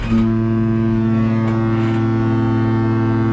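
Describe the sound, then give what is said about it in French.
A large cruise ship's foghorn blares in one long, steady, deep blast, its low harmonic tone sustained and loud throughout with no voices. “Voilà, la corne de brune retentit.”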